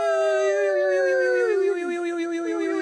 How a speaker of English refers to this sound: We're back. Sorry, yawning. Yes, we're back. It's getting late.